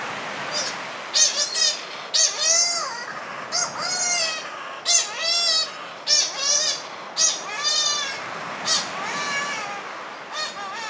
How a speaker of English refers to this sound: And as evening falls on Lord Howe Island and the sun falls directly into the ocean, then there's a shearwater flying in to feed its young in a burrow, and it almost takes your head off. It sounds like this.